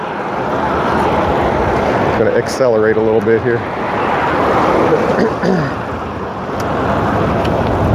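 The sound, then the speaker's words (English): Cars and trucks rush past fast on a main road with a bicycle lane in a loud, continuous roar of road noise mixed with wind, with a brief tonal engine whine around three seconds while a man riding along the road talks over it. “It has a bicycle lane, but as you can hear, cars and trucks are going really fast right next to me, so I don't like staying on this road any longer than I have to.”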